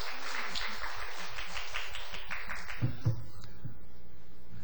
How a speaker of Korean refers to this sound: 누군지 보고 박수를 치시는 거예요 지금? 공산당도 아니고 무조건 박수만 치면 안 돼요.